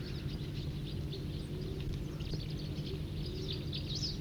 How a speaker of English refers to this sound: So recording. This is Wild Birds. Wild Bird. Siskin's here too.